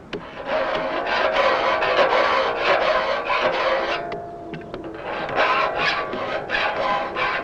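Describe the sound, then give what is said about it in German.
A broad flat saw file rasps steadily across saw teeth in quick, repeated strokes, gritty, with a brief pause midway before the filing resumes, sharpening the teeth by rubbing their front and back edges. No one speaks. “Zum Anschärfen benutzt man eine breitflächige Sägefeile.”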